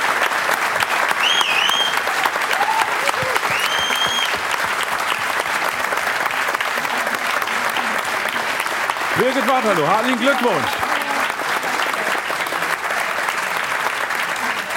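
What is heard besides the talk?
audience applause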